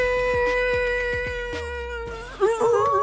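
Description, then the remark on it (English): A steady droning tone with regular soft beats gives way to a person imitating a wolf howl, the wolf call for a host's segment on WGNS radio's Wake Up Crew: a wavering, rising and falling vocal cry that swells loudly near the end. “doing the wolf call on the … Minute?”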